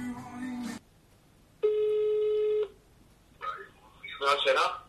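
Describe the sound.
One steady, buzzy ringback tone lasting about a second, as heard on an outgoing phone call, with brief bits of voice before and after it.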